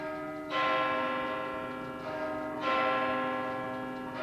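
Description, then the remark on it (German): A church bell strikes eight o'clock at night; two strikes in slow succession, each ringing out loud and rich with overtones that hang and fade before the next blow. No voices are heard. “Punkt 8. Auf den Glockenschlag genau geht's los.”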